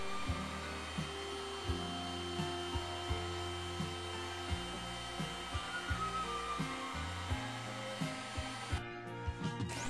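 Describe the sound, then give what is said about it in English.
A heat gun blows hot air to lift a paper pattern off a wooden board, in a loud, steady rush with a droning motor hum whose low tone wavers and pulses, continuing without speech for the full ten seconds. “A heat gun helps lift the paper.”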